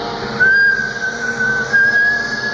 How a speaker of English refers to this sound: Now, if they needed assistance when they were up here, they've got a bosun whistle here. Oh yes. That they would whistle down for help. Would it work?